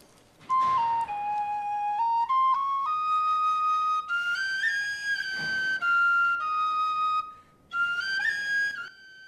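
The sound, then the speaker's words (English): A penny whistle, played by a prisoner standing in a prison cell, plays a slow, clear melody of sustained high notes, stepping up and down in pitch, fairly loud with brief pauses between phrases and no voices. “The prisoner stands and starts to play a penny whistle.”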